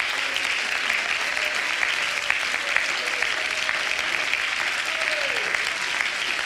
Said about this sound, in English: Oh, let's clap our hands together.